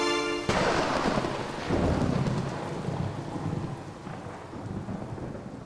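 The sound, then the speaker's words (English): A thunderstorm with a loud crack of thunder at the start and deep rumbling rolls over steady, heavy rain. No voices, just the storm, full throughout. “There is a tumult of waters in the heavens, and he makes the mist rise from the ends of the earth. He makes lightning for the rain, and he brings forth the wind from his storehouses.”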